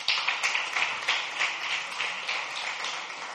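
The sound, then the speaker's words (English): An audience at Last Adam Tabernacle applauds the worship team with steady hand clapping, a dense wash of many hands with slightly rhythmic peaks running the whole time, fairly loud and with no voices standing out. “Give another big hand clap to the worship team.”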